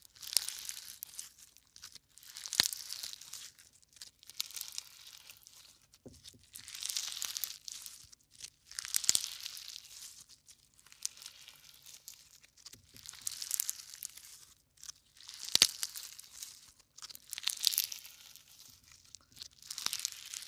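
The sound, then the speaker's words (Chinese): Slime squeezed over and over in a steady rhythm of crackly, crunchy bursts about every two seconds, dotted with a few sharp pops. Fairly quiet, with no talking. “这种爆炸的声音真的超级爽”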